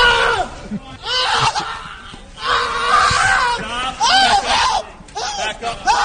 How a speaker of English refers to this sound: He sure sounds like he better be being tased for as much as he's screaming here.